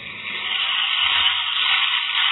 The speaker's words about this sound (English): Now he's rinsing again. That's what I like to hear. Almost sounds like frying eggs.